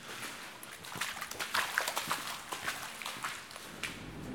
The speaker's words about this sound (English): Oh, what's that noise? That's the dumper truck coming back. Well, that's quite scary, isn't it?